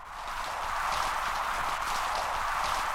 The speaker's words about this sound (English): This is just sound recorded off of a reef about an hour or two after sunset. And the noise is mostly sea urchins and snapping shrimp. A lot of the pops are probably the snapping shrimp. And both of these things tend to come out at night.